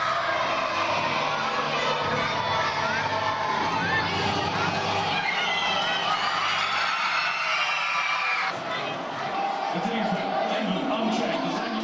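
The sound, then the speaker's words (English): A loud, continuous roar of many schoolchildren, dressed in football kits, jerseys and country colours, cheering and shouting together in a school assembly hall during Euro 2016 fever, with excited high-pitched voices and whoops rising out of the dense crowd noise throughout. “it's just gone 2 o'clock on your watch and the cheers are going, so I think we better head back in”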